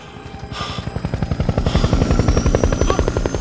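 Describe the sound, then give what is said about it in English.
A police helicopter hovers up beside a building rooftop, flashing a bright beam; its rotor thumps in a fast, steady rhythm over a loud, droning engine roar that swells slightly. “A helicopter hovers up, flashing its bright beam in their faces.”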